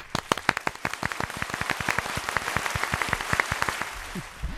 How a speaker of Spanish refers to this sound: Y ¿el aplauso del día? El aplauso del día para Málaga. La verdad es que encantadísimos. Venga, vamos a dárselo nosotros aquí mismo, nosotras mismas. Venga, va.